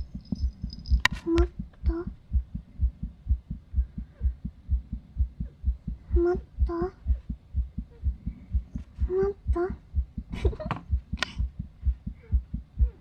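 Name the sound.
heartbeat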